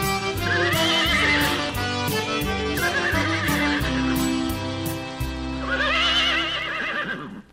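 Two mares whinny in three loud, shrill, wavering bursts over steady, rhythmic instrumental music, the calls rising and falling in pitch near the start, middle and end.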